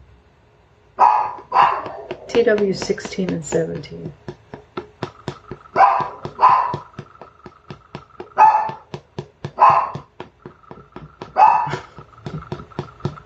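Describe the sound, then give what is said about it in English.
A dog barks repeatedly in loud bursts spaced a second or two apart, with a steady ticking rhythm and a faint tone running underneath; a voice speaks briefly early on. “So much better than those calming chimes I had, right? The barking dog.”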